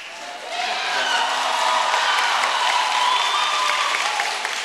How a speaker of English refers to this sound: putting his arm around her, and the crowd broke out into cheers.